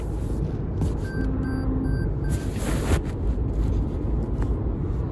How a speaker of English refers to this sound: Sorry about that, dropped the phone.